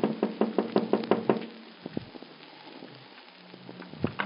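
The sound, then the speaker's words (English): A quick series of sharp knocks on a wooden hotel room door on a snowy January morning, about six raps in a fast rhythm, clear, followed by quiet with faint scattered taps and a final knock. “He turns away, looks at his watch and starts the telephone when there's a rap on the door.”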